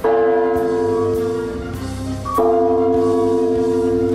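A large bell at the Chersonesus Taurica reserve, its restraints removed, tolls loudly at noon in steady, evenly spaced strikes, twelve in all, each blow landing on the long, humming resonance of the last. No voices are heard.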